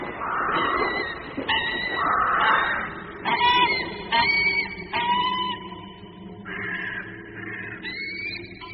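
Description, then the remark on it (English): A dense flock of birds calls continuously, harsh honking and squawking cries overlapping one another without pause, fairly loud, with no voices present. “And look at those flocks of birds.”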